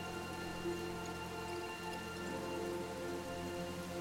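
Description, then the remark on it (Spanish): Steady, heavy storm rain pours down without a break, a constant hiss of drops over a low, droning hum, with no voices. “Ignorando el terror, ignorando la tormenta, corrí lo más rápido que pude.”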